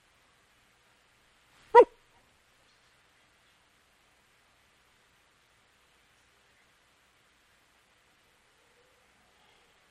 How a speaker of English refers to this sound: It's a giant dog.